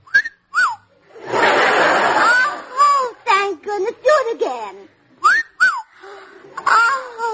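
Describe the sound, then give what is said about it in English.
A sharp rising-then-falling wolf whistle rings out near the start and comes again a few seconds later, with a burst of breathy laughter and animated voices in between. “Do you have a name, or do I just whistle for you?”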